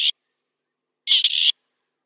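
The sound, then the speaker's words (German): A grey partridge cock calls at dusk, between sunset and full darkness, giving a harsh, rasping two-part call, a grating 'kirr-ik' lasting under half a second, after a brief clipped fragment of the same call at the start. Silence separates them, and no one speaks. “Also diese Dämmerungshalbe, dreiviertel Stunde ist dann die Zeit, wo man die Hähne hört, die dann dieses Geräusch machen.”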